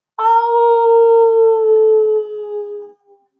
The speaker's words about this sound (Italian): Tutto il bosco fece silenzio per ascoltare l'ululato di Piccolo Nero.